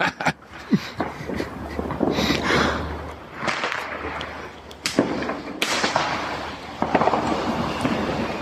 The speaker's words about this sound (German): Jetzt schmeißen sie Kracher in den Kanal. Also muss man auch einen großen nehmen und vor allen Dingen die man über eine Reibefläche anzündet. Alle anderen gehen unter Wasser aus.